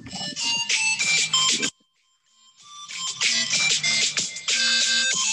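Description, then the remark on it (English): Christmas trap music plays through a small phone speaker, a bright, jingly bell-like melody over a beat that cuts out for about a second before resuming. No one talks. “Christmas trap music”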